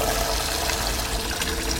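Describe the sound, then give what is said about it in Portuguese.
Water pours steadily into a cooking pot holding peeled potatoes, with a little salt, to cook them until soft; a continuous rushing splash that stays fairly even in loudness throughout, with no one speaking. “Deixa eu colocar elas todas na panela para levar aqui com água e um pouquinho de sal para cozinhar até ficar macio.”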